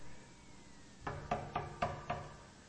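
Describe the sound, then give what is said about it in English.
Five quick, firm knocks on the wooden door of a house at dusk, in an even rhythm, clear against a quiet background, with no one speaking. “I was getting dusk out now, and when I got to his house, I rapped on the door.”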